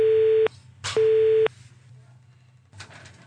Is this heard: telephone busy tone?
yes